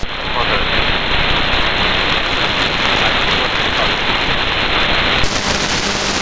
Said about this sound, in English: It's still raining, moderate raining now.